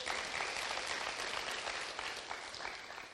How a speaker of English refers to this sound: And their youngest daughter, they've only got two, she's going to be baptized as well. We can clap for that as well.